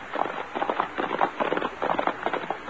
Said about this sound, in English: Quiet, Tommy. I hear horses. So do I.